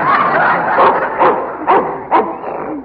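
A Russian wolfhound barks and yips in a quick run of five or six sharp, loud bursts, with a brief whining edge between barks and no talking.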